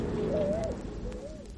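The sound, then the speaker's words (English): A bird on a bus hoots twice, two soft rising-and-falling calls about a second apart, heard over a steady low background rumble with no one speaking. “You take that bird and go on the upper deck.”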